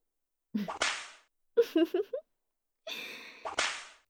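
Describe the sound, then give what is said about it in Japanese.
Two sharp whip lashes crack out a few seconds apart as a woman whips a company president's body, each with a breathy sigh or gasp around it, and a short run of voiced groans sits between them. “ほら、社長の醜い体に私のムチが入ってますよ。”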